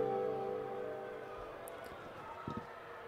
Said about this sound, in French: Avec le sixième choix de la draft, Roger Goodell apprécie toujours autant de se faire siffler.